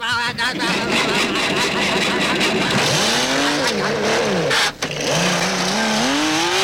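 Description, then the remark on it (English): A car revs loudly and pulls away, its tires squealing in rising and falling shrieks over a continuous engine roar lasting several seconds. “All right, you get back in that car and get out of my drive-in.”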